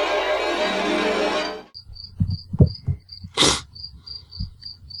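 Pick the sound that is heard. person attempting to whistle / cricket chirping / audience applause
cricket chirping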